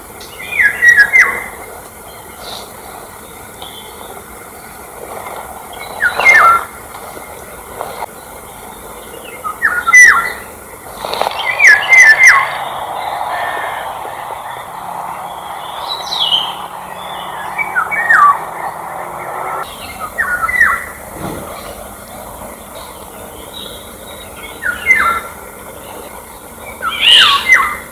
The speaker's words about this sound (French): Donc le loriot, son sifflement est bien connu et les bergers autrefois savaient très bien l'imiter et même parfois le faire revenir en répétant son chant, en le sifflant.